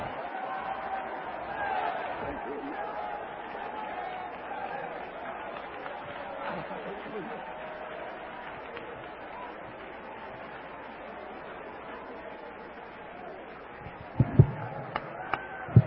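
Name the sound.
audience clapping and shouting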